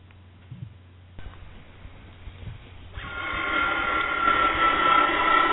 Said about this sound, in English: There's a new kind of plane! That's Eastern's new Boeing 727 jet! Look how high the tail is! 34 feet! Look where they put the jets! In the tail assembly. That's one reason it's so quiet.